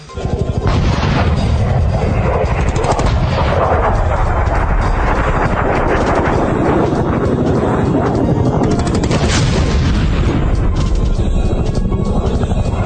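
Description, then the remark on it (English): Iranian anti-aircraft gunfire and explosions in Tehran at night roar in a loud, dense, continuous barrage, with heavier rumbling blasts swelling near the start and again around the middle, leaving no quiet gaps. “One blog has a live feed of Iranian anti-aircraft fire.”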